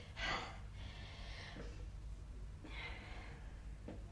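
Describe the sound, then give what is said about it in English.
Slow, deep breaths drawn in and pushed out during a Tai Chi breathing exercise demonstration, two full cycles of loud airy inhales and exhales, with no talking, over a low steady background hum. “We learn Tai Chi. It's very good for breathing exercises.”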